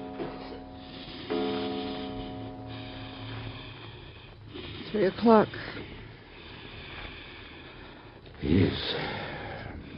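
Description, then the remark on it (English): A sick boy's labored breathing, with rough, wheezing gasps rising in two louder bursts over a steady low background and faint sustained tones. “Listen to the way he's breathing. It's getting worse.”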